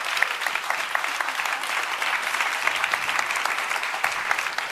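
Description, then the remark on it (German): Sustained audience applause for the project leadership being called up on stage, a dense crackle of many hands clapping at a steady loudness throughout, with no break or fade. “Einen herzlichen Applaus für unsere tolle Projektleitung.”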